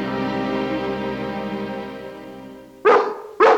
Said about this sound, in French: Il fait appel à l'aboiement du soir, un moyen de communication souvent utilisé par nos amis les chiens.